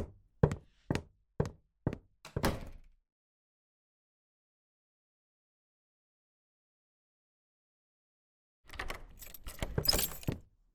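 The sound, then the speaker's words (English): A handful of sharp, evenly spaced thuds, then a long silence before a burst of metallic key jangling and rattling as a front door is unlocked and opened. No one speaks. “I didn't expect to see you as soon as I opened the door.”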